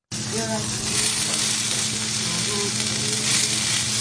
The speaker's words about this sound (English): Just steps from the Neversink River in Orange County, the sound and smell of sizzling eel fill a restaurant's kitchen.